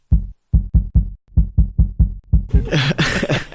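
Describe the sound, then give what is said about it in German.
About ten rapid, muffled low thumps of a person's heartbeat picked up by a microphone held against the carotid artery in the neck, then a burst of loud crackling rustle as the mic shifts. “Ich halte mal kurz das Mikrofon an deiner Halsschlagader.”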